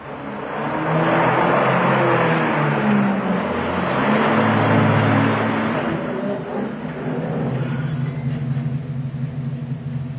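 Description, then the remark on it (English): A car engine roars, its low rumble climbing in pitch as it accelerates, then settling into a steady drone as the vehicle drives on, loud throughout with no voices. “The car back there.”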